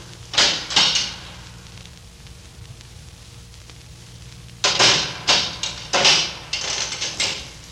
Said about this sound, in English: Shh. They're unchaining the door.